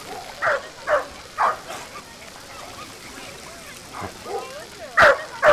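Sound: dogs barking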